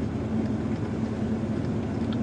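A 1993 Ford F-250 XLT pickup truck's 7.5-liter 460 V8 engine drones steadily while driving, a constant low rumble with a hum on top and no change in level, with no voices.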